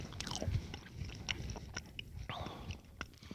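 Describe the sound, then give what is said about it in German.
Crunching as someone bites into a crisp, sugary Neapolitan wafer smelling of vanilla and chocolate and chews, with sharp irregular crackles and soft mouth sounds over a few seconds. “Auch die Waffel schon, die so mit Zucker zersetzt, knuspert, ich meine, ist toll, aber selbst die Waffel.”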